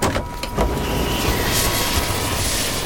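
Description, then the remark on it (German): A helicopter comes in to land with a loud, steady engine roar and rushing rotor wash that fills the whole stretch, with a faint high whine running through it and no voices. “Makia war neben dem Helikopter hinabgeschwebt, zog ihre Flügel ein und stand nun lächelnd mitten auf der Straße.”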